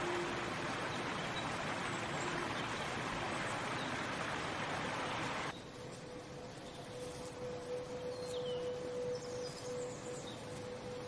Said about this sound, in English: Later, dawn breaks. A flowing river stretches and winds through the woods.